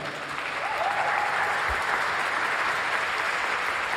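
Subdued applause, a steady patter of clapping from a modest crowd that holds at an even, moderate level without swelling into cheers, with a faint voice briefly audible underneath.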